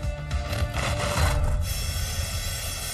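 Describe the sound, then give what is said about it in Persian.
A precision wire saw with a diamond-fine cutting wire and a two-pole electromagnetic motor grinds steadily through 7-ton steel at 40 mm per second, a continuous rasping scrape over a low mechanical hum, harsher for the first second and a half before settling into an even drone. No one speaks. “ولی اینو ببینید، یه سیم مخصوص برش که به دقت و ظرافت الماسه، همینطور یه موتور الکترومغناطیسی 2 قطبی.”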